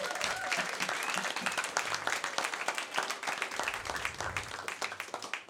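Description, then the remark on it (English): Sustained audience applause for the Project Drew team, dense and steady with many hands clapping at once, a few voices faintly mixed in underneath. “How about a round of applause for the Project Drew team?”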